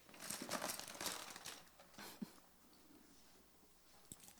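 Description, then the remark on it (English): Sheets of paper rustle and crinkle in a cluster of quick bursts over the first two seconds as a service crew hands out paper and pens, then settle into softer, scattered handling noises. “So they're going to give you a piece of paper and a pen.”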